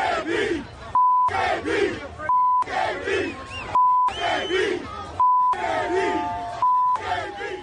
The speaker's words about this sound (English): And so was the black hole. So was the crowd, which was chanting, bleep AB, bleep AB, throughout the entire game.